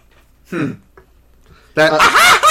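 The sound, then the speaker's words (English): A voice imitates the cackling laugh of Scratch the Robot Chicken from the Sonic the Hedgehog cartoon: a short squawk, a brief pause, then a loud, rapidly warbling burst of clucking laughter. “They even had one of the minions of Lord Boxman actually do the laugh that Scratch the Robot Chicken had.”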